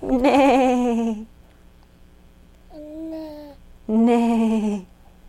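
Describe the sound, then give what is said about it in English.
A voice imitates sheep bleating with three drawn-out "baa" calls. The first and last are loud, and the middle one is softer, with short pauses between them. “Bah. Bah. Bah. That's what the sheep says.”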